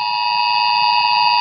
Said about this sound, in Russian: Я сразу скажу нашим слушателям, что звук, который я поставлю, издает iPhone. И вы точно, наверное, никогда такого не слышали. Вот давайте буквально пару секунд он идет. Давайте послушаем.